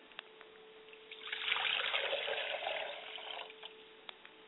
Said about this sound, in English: I pour a glass of water for my mother's spirit and I say, Ashe.